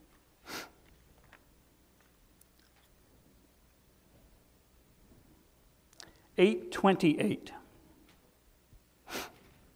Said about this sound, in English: I'm sorry, I'm sniffling again.